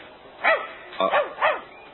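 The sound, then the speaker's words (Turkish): A dog approaching the listener barks three times in quick succession, sharp, with short pauses between the barks against a quiet background. “Bu köpek bana doğru geliyor.”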